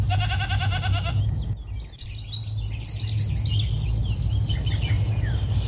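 A goat lets out one loud, quavering bleat, then falls quiet while birds chirp and twitter in the background over a steady low rumble; a real recording of a woman interacting with her goats in la Garrotxa.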